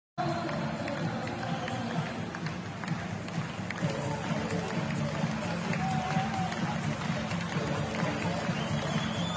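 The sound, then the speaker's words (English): A big stadium crowd of Newcastle United football fans roars and cheers in a steady, dense wash of voices for about nine seconds, with scattered shouts and whistles rising above the din, after their team lost 3-1 to Brighton. “Why are they cheering losing 3-1 to Brighton?”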